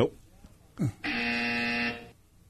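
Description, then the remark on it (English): A quiz buzzer gives one flat, harsh electronic buzz lasting nearly a second. Two short voice sounds come just before it, and the buzz ends abruptly into quiet. “God, you don't have to buzz”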